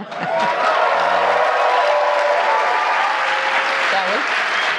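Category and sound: crowd, audience cheering and applause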